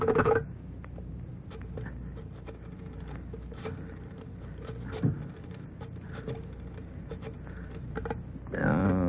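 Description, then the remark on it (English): Someone clumsily dials a borrowed telephone, beginning with 7 9 0 8, in a long, irregular string of small clicks and button taps, some quick and some hesitant, over a low steady background hum. “7 9 0 8 No, I can't dial this thing.”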